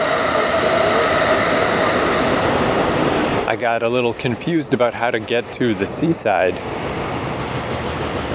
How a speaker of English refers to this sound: Here comes the train.